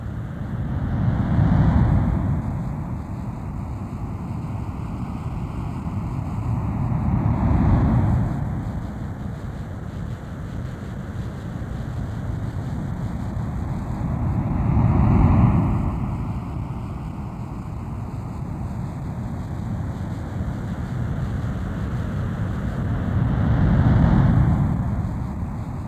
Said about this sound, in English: as you listen to the sound of ocean surf, move your body into a more relaxed position.